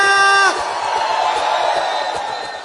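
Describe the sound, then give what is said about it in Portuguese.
A group of young men shouting together, opening with one loud sustained yell that breaks into a noisy burst of overlapping cheers and whoops from the crowd. “grito da rapaziada.”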